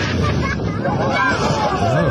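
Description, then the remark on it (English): A loud, sustained scream with wavering pitch rises over a dense wash of crowd hubbub and rushing, wind-like noise that stays steadily loud throughout. “That was loud. I screamed.”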